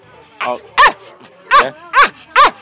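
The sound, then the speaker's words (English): A dog named Charlie barks in a quick series of about five sharp, loud barks with short pauses between them, the first one a bit softer and rising into the rest, in reply to an interviewer asking about his jumps at the weekend's regionals at the Tin Wolf Inn. “This is Radio Doc Dogs. Okay, so I'm going to interview Charlie. Hey, Charlie, how was your jumps this weekend?”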